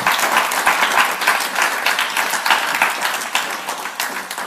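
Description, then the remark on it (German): Sustained applause from an audience for the band, a dense, steady wash of many hands clapping, holding at a fairly even loudness for several seconds with no voices standing out. “Komm, ein Applaus der Band, noch, wenn ich wirklich einmal sagen.”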